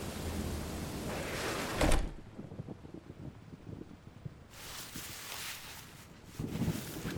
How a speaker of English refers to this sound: Do come in. It's raining cats and dogs out there.